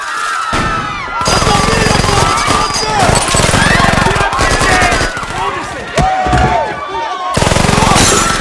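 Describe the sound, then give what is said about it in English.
Loud bursts of rapid automatic gunfire from the Altamira gang firing at the ceiling of a bar crackle almost nonstop, broken by brief pauses, while fleeing patrons and strippers scream and shout underneath the shots. “They duck behind the bar as the gangsters fire at the ceiling, sending the patrons and strippers fleeing.”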